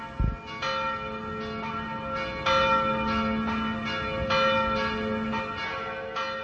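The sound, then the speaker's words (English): Several church bells in the Czech Republic peal together at 12 o'clock in honour of Pope Karol Wojtyla, in a rich, overlapping ring, with repeated strikes sustaining a steady, resonant wash of tolling that carries continuously with no voices. “At 12 o'clock, bells rang out in honour of Karol Wojtyla, the first Slav Pope in history.”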